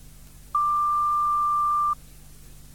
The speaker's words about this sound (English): Please leave your message after the tone, and I'll phone you back as soon as I can.